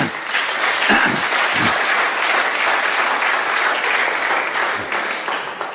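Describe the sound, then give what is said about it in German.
An audience applauds steadily for several seconds, a dense, even wash of many hands clapping that stays loud throughout before easing slightly at the end. “Auch sie hat, jetzt darf die Gemeinde, yeah, mal Applaus hier.”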